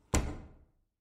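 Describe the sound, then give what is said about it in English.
A single solid office door thud, like a door swinging shut, with a short resonant decay that fades within about half a second. No voices. “I went into the office door.”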